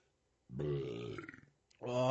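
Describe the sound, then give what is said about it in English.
A loud, deep, drawn-out burp lasting about a second, from drinking a beer with a large hop profile, then a short pause before another throaty, voiced sound begins. “Yeah, if you're not used to like large hop profiles, I don't know about anybody else, but it does make me burp.”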